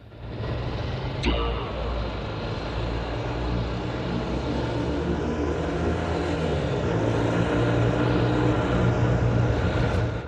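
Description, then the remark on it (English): A moped ridden by a youth drones steadily for about ten seconds, its buzzing tone dipping in pitch partway through as it rides past, with a brief sharp knock near the start. “He spins round and sees a spotty youth ride past on a moped.”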